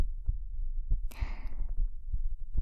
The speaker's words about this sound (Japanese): 心臓がドキドキしちゃってるのも、本当のことなんだよ。